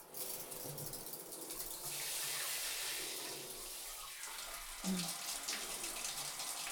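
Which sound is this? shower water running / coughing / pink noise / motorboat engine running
shower water running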